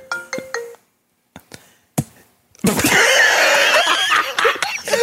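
A mobile phone rings with three quick electronic tone bursts, followed by a few sharp clicks and then a sudden loud, dense wash of noisy commotion.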